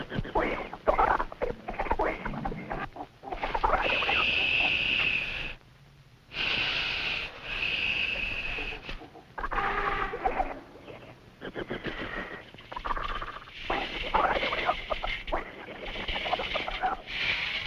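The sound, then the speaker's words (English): A looped, artificial monkey sound effect created to accompany stock footage of a monkey: harsh chattering squeals and snorting breaths repeat in dense bursts, loud, with one brief pause partway through and no voices. “So it's like you see a monkey, and you sort of get this idea that they were trying to mimic the sound of a monkey.”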